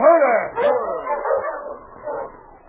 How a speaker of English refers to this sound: Hey, that dog. Look vicious. Easy, King. He won't hurt you.